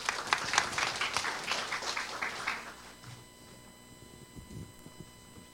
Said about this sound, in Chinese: 我们拍手先欢迎这个短片，谢谢。